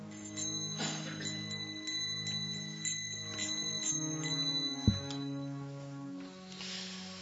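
Small ankle bells tinkle and jingle continuously as the wearer moves, a bright shimmering cluster of metallic chimes that rises and falls as if with footsteps, clear with no talking.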